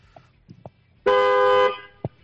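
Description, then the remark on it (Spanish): A single loud car horn blast from a 2006 car holds steady for about half a second, rich and brassy, then cuts off; brief soft knocks and a faint voice come before and after it. “Venga, pues vamos a darle caña a ver cómo suena ese claxon.”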